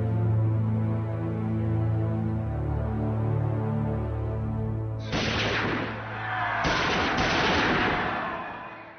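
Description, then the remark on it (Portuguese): Three 9mm pistol shots, fired at Pope John Paul II in St. Peter's Square in 1981 by Turkish student Mehmet Ali Ağca, burst out suddenly over a low, sustained musical drone, loud, harsh cracks with a reverberant tail that follow one another within a couple of seconds. No one speaks. “O Papa foi atingido por 3 tiros disparados com uma pistola 9mm pelo estudante turco Mehmet Ali Aka, então com 23 anos.”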